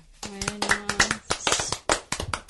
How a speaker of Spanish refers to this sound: Si os parece, le damos un aplauso a los que estamos aquí en el estudio.